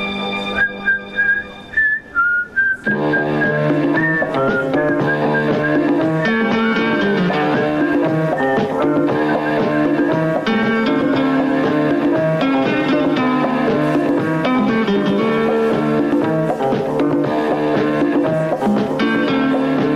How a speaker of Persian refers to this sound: آنچه شنیدید تیتراژ سریال طلاق بود که ایشون ساخته بود. اصلا انتخاب بی‌نظیر به نظر من از ایشون برای همچین چیزی، همچین سریالی.